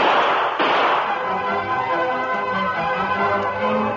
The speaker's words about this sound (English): Across the street, Sheriff Fraser and Tonto entered the office from the cell room as the sound of gunfire was heard outside. Hey, Tonto, those were shots.